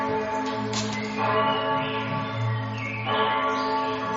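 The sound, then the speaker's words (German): Church bells ring steadily, their overlapping tones forming a dense, humming wash of sound with strikes swelling every second or so. No one speaks. “Ja, die Kirchenglocken habe ich jetzt nochmal draufgebracht, weil die haben ein bisschen was damit zu tun.”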